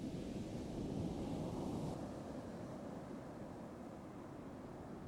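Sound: ocean waves washing ashore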